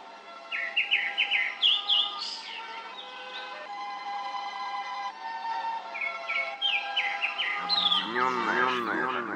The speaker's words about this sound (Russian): Уссурийская тайга. Глубокие распадки с огромными деревьями, обомшелые упавшие стволы на земле и оранжевые купальницы. На вершине высокого ильма поет сизый дрозд.